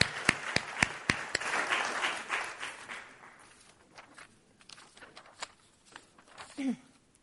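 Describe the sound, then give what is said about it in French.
A church audience applauds Jesus Christ during a sermon, bursting into dense, loud applause with a few sharp claps standing out, then thinning over several seconds to scattered claps before a brief voice sounds at the end. “Ouais, on peut applaudir.”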